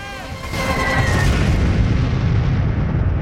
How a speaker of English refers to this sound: St. Paul's Cathedral radiates with the glow of surrounding fires, and firemen battle to put out a blaze when a bomb detonates nearby in a burst of white light.